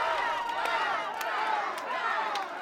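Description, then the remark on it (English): A large crowd chants the name of Mayor-elect Vi Lyles in unison, voices rising and falling in a steady repeated rhythm, loud and continuous, with sharp claps punctuating the chant at regular intervals. “The crowd began chanting her name.”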